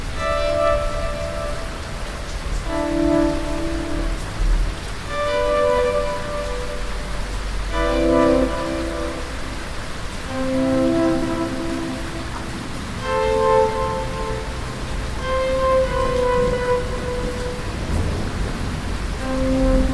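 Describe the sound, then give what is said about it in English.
Steady rain hisses throughout beneath a low, continuous thunder rumble, while soft sustained melodic tones drift over the top at a fairly even pace. No one speaks. “If you count the seconds between the thunder and the lightning, you can tell how far away the storm is.”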